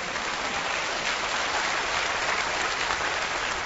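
A crowd claps steadily for a few seconds, a dense, sustained wash of many hands with no pauses and no voices over it.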